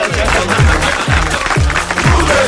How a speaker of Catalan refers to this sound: Molt gràcies per aquest aplaudiment.